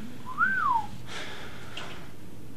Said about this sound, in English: He's just looking at me weird and whistling.